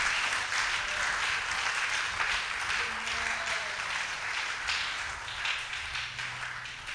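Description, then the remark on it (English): An audience claps steadily to God's glory at the preacher's call, the dense, crackling applause of many hands holding an even loudness from start to finish, with no distinct voices rising above it. “Somebody clap to God's glory.”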